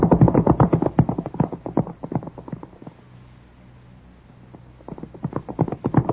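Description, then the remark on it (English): Hooves of several galloping horses pound in a fast, rhythmic, loud clatter as riders chase a man on horseback, fading to a brief lull before the drumming hoofbeats return. “His horse must be fresh, and ours are tired. We can't seem to gain on him.”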